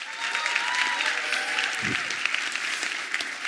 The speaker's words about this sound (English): Final round of applause for our teams